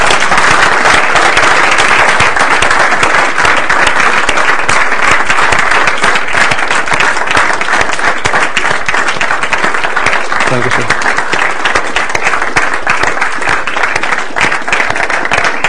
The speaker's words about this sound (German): Wollen wir einen Applaus geben? Das würde ich ermutigen.